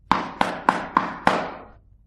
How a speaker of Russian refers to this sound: Не успела она еще до мельницы дойти, а волк уже прискакал к бабушкиному домику и постучался в дверь.